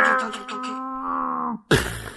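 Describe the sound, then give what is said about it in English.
A voice imitates a race car crash: a long, droning engine-like hum that holds its pitch, then cuts off before a sudden noisy burst like an impact. “Whoa, he just crashed.”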